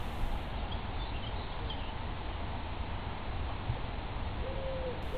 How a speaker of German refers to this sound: Schritt für Schritt nimmst du immer mehr das Rauschen der Blätter und den Gesang der Vögel wahr.